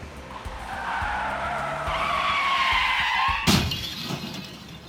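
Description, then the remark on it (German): Car tires squeal in a long, loud skid that rises over a few seconds as two cars driving one behind the other on a street close in, then a sudden sharp crash of impact and shattering near the end as the two cars collide, with no voices. “dass zwei Autos hintereinander fahren und immer näher kommen.”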